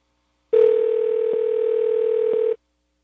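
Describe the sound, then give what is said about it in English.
A single steady electronic telephone ringing tone on an outgoing call holds evenly for about two seconds and then cuts off, with no voices around it. “The phone number you have just called is actually spelling the name of a place.”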